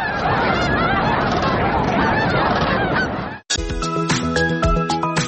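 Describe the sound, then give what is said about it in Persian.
A large flock of cranes calls loudly and continuously, many overlapping honking, trumpeting cries, then cuts off abruptly and gives way to a different, steadier tonal sound. “هر سال آنها جشنواره تورنه ها را برای دوستداران پرنده ها و عکاسان تشکیل میکنند.”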